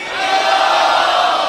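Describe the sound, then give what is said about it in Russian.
A crowd shouts "Hari Bol" together in one loud, sustained burst, many voices merging into a dense roar that swells quickly and holds steady for about a second and a half. “Кто-то хочет узнать, как мы решаем эту проблему, громко крикните «Хари Бол».”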